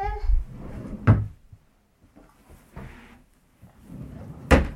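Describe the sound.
A drawer slides and bangs shut twice as hats are put into it, two sharp wooden knocks a few seconds apart with low scraping rumbles between them and a brief voice at the very start.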